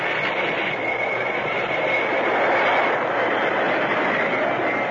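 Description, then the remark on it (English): A train rolls along loudly, its steady rumbling roar mixed with a high metallic whine as it brakes toward a stop. No one speaks. “Stop the train. Stop it quick.”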